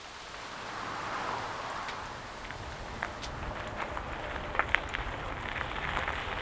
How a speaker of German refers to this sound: Eine knappe halbe Stunde später schüttet es wie aus Kübeln. Der Regen zwingt mich, unter dem Vordach einer Hütte stillzusitzen.